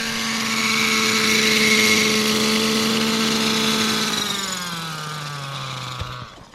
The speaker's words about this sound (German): Wir fliegen, bis der Helikopter kein Benzin mehr hat. Dann lässt ihn der Toni Laube sanft landen.